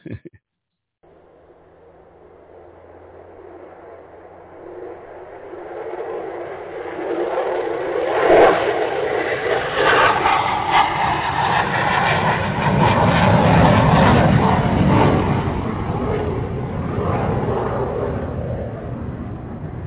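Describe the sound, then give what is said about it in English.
A jet engine roars up steadily as an airplane takes off, the broad rumbling noise swelling louder over about twenty seconds and holding strong near the end, with no voices. “All right, ladies and gentlemen, let me get this big iron bird on up off the ground.”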